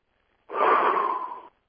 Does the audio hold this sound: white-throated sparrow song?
no